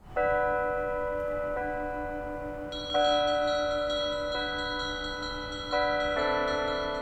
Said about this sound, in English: Bells rang at noon today to remember those who died as a result of COVID-19. Pueblo Mayor Nick Gratisar joined first responders at a Catholic church, though other houses of worship and residents were encouraged to take part in the bell ringing.